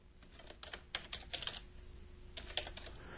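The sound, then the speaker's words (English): Quiet typing on a computer keyboard as someone types an email, with irregular bursts of clicking keystrokes separated by short pauses. No one speaks. “Hear me typing in the background here?”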